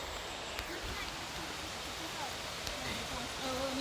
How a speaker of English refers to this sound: So we're at a waterfall this morning, just outside Kuala Lumpur. And we're gonna go on a little hike to the top of the waterfall. And if you don't believe I'm in a jungle on a hike to a waterfall, listen to this.